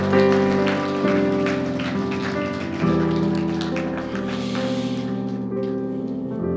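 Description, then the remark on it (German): A church audience breaks into steady, dense applause for Jesus Christ after a prayer, lasting several seconds, the clapping loud and continuous over sustained low musical tones underneath, with no one speaking. “Soll man einen dicken Applaus an Jesus Christus geben?”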